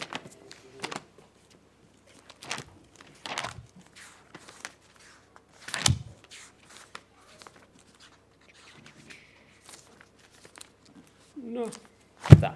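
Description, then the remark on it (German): A speaker's paper sheets rustle and pages flip crisply in irregular bursts, some sharp and loud, others soft, separated by brief quiet pauses throughout. “Muss ich mit meinen Papieren aufpassen.”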